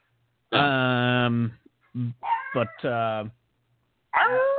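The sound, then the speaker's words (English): A dog barks in drawn-out, whining calls: one long yowl, a few shorter choppy yelps, another sustained call, then a final bark starting as the sound cuts off. “See? Emma Watson must be here. But the dog recognize it.”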